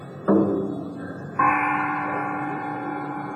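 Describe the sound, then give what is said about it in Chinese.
Two loud metallic gong strikes about a second apart, struck on command during a Peking opera stage performance by the Beijing Peking Opera Troupe, each with a sharp percussive attack and a long shimmering ring that lingers and overlaps, with no voices. “你二人与我一鼓鸣锣子， 得令。”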